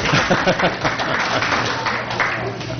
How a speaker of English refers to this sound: Let's have a round of applause for no supplemental sheet.